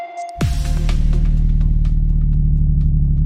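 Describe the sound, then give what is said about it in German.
Humpback whale song: a thin, steady higher tone gives way to a loud, low moaning drone with rich harmonics, sustained for several seconds amid faint scattered clicks, with no voices. “Dass Wale, so wie eben gehört, singen, das wissen wir seit den 1970er Jahren, als die ersten Walgesänge unter Wasser aufgenommen wurden.”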